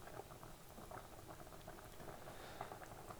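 A pot of chicken breast boils steadily, with a continuous dense bubbling and popping texture and a lot of scum rising. No one speaks.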